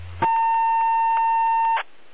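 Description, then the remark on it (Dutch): A single sustained electronic beep from another person transmitting on the radio channel, a steady mid-high tone lasting about a second and a half, loud against a faint hiss, with a low hum just before it. “Ja, afgezien van die andere persoon die aan het piepen is, dat klinkt heel wat beter”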